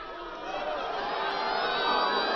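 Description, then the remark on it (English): A large crowd at a Sarah Palin election campaign rally cheers and applauds an applause line in a steady, dense roar that swells slightly louder partway through, with scattered whoops rising above the clapping. “A great applause line there Sarah Palin has, but it's also a rich stew of ideas.”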